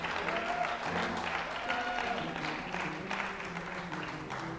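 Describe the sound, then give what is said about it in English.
An audience gives God a hand clap of praise, a dense, steady wash of many overlapping claps lasting several seconds, with faint voices mixed in beneath the applause. “Can somebody give God a hand clap of praise?”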